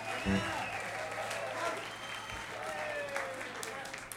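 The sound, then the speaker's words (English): An audience breaks into steady, sustained applause for Wavy Gravy, a dense wash of clapping lasting several seconds, with a few indistinct voices and cheers mixed in. “Ladies and gentlemen, how about a nice round of applause for our dear, dear, dear, dear, dear friend, Wavy Gravy!”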